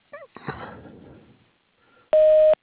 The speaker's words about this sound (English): You can leave me a message after the beep.